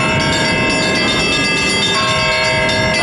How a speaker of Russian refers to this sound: Жители Малинного края постепенно привыкают к ежедневному перезвону колоколов своего нового кафедрального собора во имя Рождества Пресвятой Богородицы.